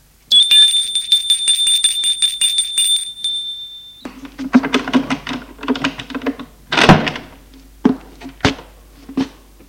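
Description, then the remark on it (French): A doorbell at a first-floor apartment rings with a steady, buzzing tone for about four seconds. Clunks, rattles and a sharp latch-like knock follow as a man opens the door. No one speaks. “Elle sonne au premier.”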